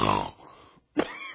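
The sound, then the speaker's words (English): A man imitates a horse snorting: a loud, harsh nasal burst, then a brief silence and a second rough, breathy snort. “I snorted too hard.”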